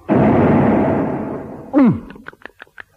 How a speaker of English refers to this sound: But the warning came too late. The great jaws snapped shut.